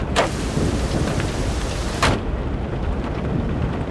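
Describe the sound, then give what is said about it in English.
Heavy hurricane rain pours steadily in a dense, roaring wash, with torrential wind gusts buffeting a car and rain flooding the streets; two sharp bursts of louder spray or buffeting cut through the storm noise. “We pulled up, torrential winds buffeting the car, rain flooding the streets.”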